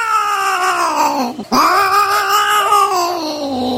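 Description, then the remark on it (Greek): Loud, drawn-out yowling of cats caterwauling in mating season, a wavering wail that dips briefly and then rises into a sustained howl, continuous. “Νομίζω ότι είναι οι γάτες.”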